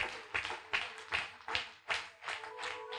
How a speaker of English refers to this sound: Let's give glory and honor as we clap to him for the instrumentalists.